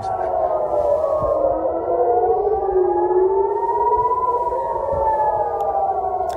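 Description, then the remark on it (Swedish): Several air-raid warning sirens wail across Jerusalem, Israel, putting the country on alert for possible retaliatory attacks from Iran; their steady tones slowly rise and fall and overlap into a loud, continuous drone with faint background noise. “Det här är sirener från Jerusalem, Israel, som sätter landet i beredskap för potentiella eventuella hämndattacker från Iran.”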